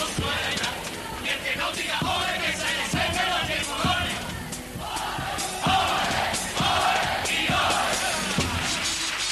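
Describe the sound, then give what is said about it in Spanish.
A crowd applauds steadily after a cuplé performance, with dense clapping mixed with loud cheers, whoops and shouted voices that hold at a constant level for about nine seconds. “Es verdad que, como bien dice José Mari, hay mejor termómetro que los aplausos que nos dejan.”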